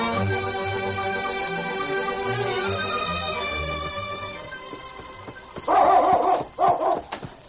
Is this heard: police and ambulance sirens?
no